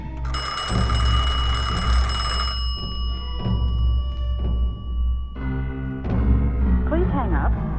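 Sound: telephone ringing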